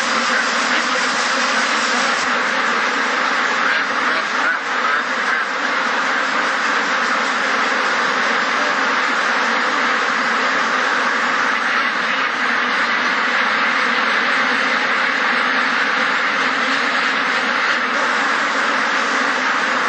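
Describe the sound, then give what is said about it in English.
A dense, unbroken din of countless ducks quacking at once in an intensive farm shed, loud and steady throughout, echoing, with no one speaking. “In today's intensive farms, ducks never even see water, except to drink.”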